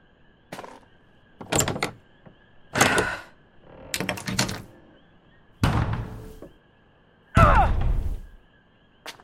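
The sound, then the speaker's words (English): A sticking door is shoved again and again: about six heavy thumps and scraping judders in uneven rhythm, the last one grinding with a creak, fairly loud. “The door's been sticking lately.”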